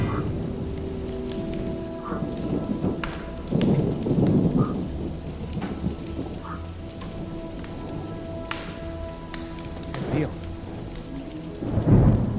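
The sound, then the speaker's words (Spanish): Steady heavy rain pours throughout, with low rumbles of thunder swelling around the middle and again near the end. A single brief word is spoken under the downpour. “De la selva o de Madrid en un día así jodido de lluvia, ¿eh?”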